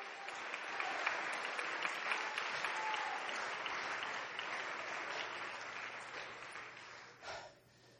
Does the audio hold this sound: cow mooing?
no